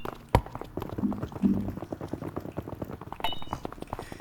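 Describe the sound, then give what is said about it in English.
A sound effect of quick, light pattering little footsteps tapping out a busy, uneven rhythm throughout, with one sharper knock near the start and a faint high squeak toward the end. “All our little feet.”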